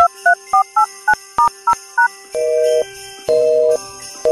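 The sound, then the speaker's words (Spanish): A quick run of touch-tone dialing beeps, then a telephone busy signal: steady, clear tones pulsing on and off at an even half-second rhythm, with no voices. A phone call placed from Peru at Christmas. “Qué raro, está ocupado y ocupado, deben estar divirtiéndose mucho.”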